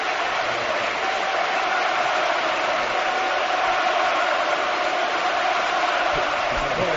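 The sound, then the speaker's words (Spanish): A steady, dense roar of the Bernabéu stadium crowd on its feet, applauding and cheering in an ovation for Cristiano Ronaldo as he is substituted. It is a continuous wash of noise at even loudness for several seconds with no clear individual voices. “Escuchamos la ovación del público del Bernabéu puesto en pie para despedir a Cristiano Ronaldo.”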